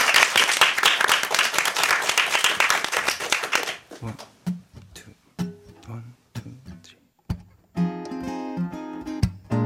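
A burst of lively applause from an audience for about four seconds, welcoming a singer from Jeju to perform a song, then it stops and a quiet plucked instrumental intro begins, building into fuller sustained music.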